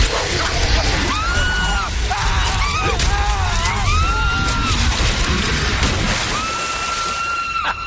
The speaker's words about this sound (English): Did you do your own screaming for that scene? And I found out in gory detail. Yes, that was me performing my own death. It's fantastic. It's terrifying.